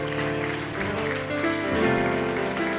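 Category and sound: crowd, audience clapping hands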